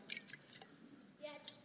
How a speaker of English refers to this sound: Yeah, you hear it, right? Okay, so water, we can hear it. We can touch it. It splashes on us.